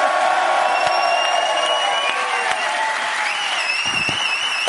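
A crowd applauds steadily in a dense, unbroken wash of clapping, with high whoops and cheers rising over it toward the end; no one speaks.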